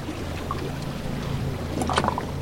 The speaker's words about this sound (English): In late July, I took a boat trip near the mouth of the Mississippi with National Wildlife Federation conservation scientist Doug Inkley.